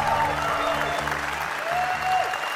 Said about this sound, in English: So, let's give a big round of applause for dads.